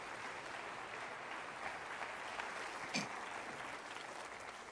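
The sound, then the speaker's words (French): An audience applauds steadily to show they are ready to pray along, a dense wash of clapping hands that holds an even level for the whole stretch, with one slightly sharper burst near the end and no voices on top. “Applaudissez si vous êtes prêt à le prier avec moi, vraiment.”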